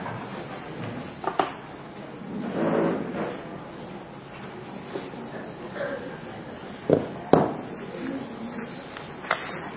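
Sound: door opening or closing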